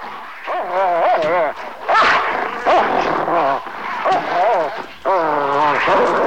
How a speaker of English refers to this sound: Better get out here, Lieutenant. The dogs have turned and are snarling and barking through the bars of their cage.